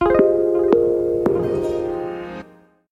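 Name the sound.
telephone dialing tones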